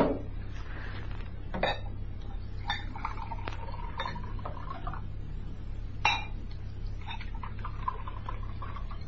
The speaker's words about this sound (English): Now, let's pour that toast. Mm.